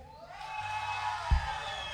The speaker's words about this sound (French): Que je me tourne avec un invité des surprises, je vous demande d'accueillir avec un tonnerre d'applaudissements parce qu'il en faut, parce qu'il faut qu'il ait du courage.